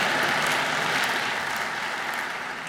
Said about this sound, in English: Oh, applause, because I'm still on my feet. Yes.